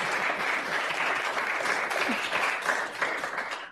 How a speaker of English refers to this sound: This says applause. Can you applaud? Thank you very much.